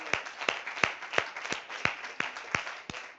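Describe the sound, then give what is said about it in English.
A church crowd applauds, a steady wash of clapping with one sharp, evenly spaced clap standing out roughly three times a second. No one speaks. “So I believe that they're worthy of a round of applause.”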